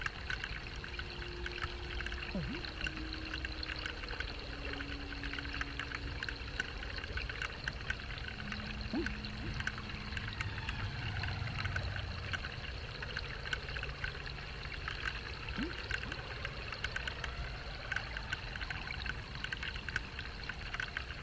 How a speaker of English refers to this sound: Mostly the rain has been steady and light, but occasionally it's gotten harder.